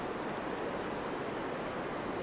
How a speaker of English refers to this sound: There's a razor fish shells all along, a couple of seagulls just standing in the edge of the water, people and dogs in the distance, dogs bouncing about, and just the sound of the sea. Can you hear that?